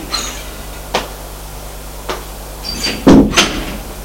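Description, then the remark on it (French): An apartment door creaks and clicks open as a man leaves the apartment, followed by a few light knocks and handling sounds, then shuts with a firmer thud near the end, with no talking. “Et il sort de l'appartement.”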